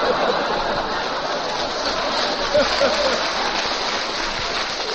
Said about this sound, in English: Well, my garden almost washed away with all this rain